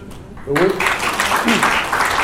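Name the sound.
audience applause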